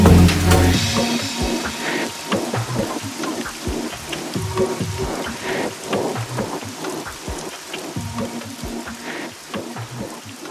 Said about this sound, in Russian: А за окном льются дожди.